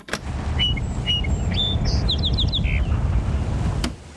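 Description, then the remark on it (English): A song sparrow sings a phrase of clear, separate whistled notes that run into a quick trill, recorded at dawn on May 18, 1929, with a microphone placed near a perch popular with song sparrows, heard through a steady low rumble and hiss. “Eventually, it occurred to Arthur to put just the microphone near a perch popular with song sparrows and leave the rest of the gear out of view.”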